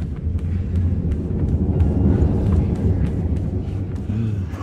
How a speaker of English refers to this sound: The director, by the sounds of it. He has the new spa space yacht, the 790. Just listen to that engine purr.